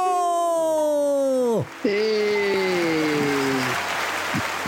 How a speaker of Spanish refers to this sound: ¡Sí! Me gustan los aplausos. Me encantaron los aplausos.